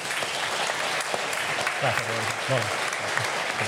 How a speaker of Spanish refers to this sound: Vamos a dar paso al cronista, pero antes yo creo que un aplauso para el alcalde también, ¿no?